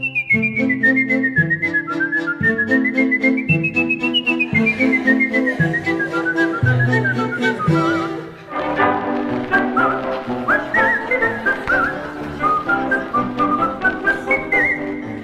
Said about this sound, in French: Alors, non, pour ce qui est de siffler, je fais le job.